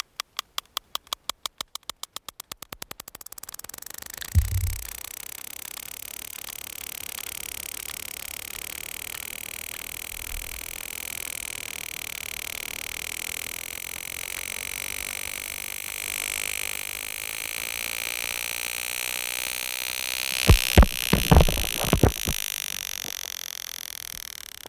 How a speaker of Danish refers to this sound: Det lyder bare som om, at den ekolokaliserer, og så når den kommer tættere på målet, så stiger frekvensen.